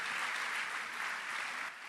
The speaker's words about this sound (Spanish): ponte de pie y deme un aplauso fuerte